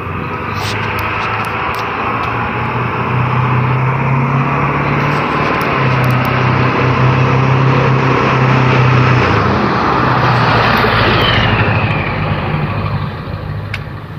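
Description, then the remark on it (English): A loud, noisy truck rumbles past, its low engine drone and broad road roar building to a peak before slowly easing off. No one speaks. “Noisy truck.”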